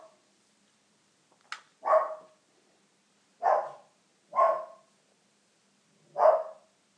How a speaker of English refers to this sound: Oh, listen to my dog's excitement with the arrival of the postman.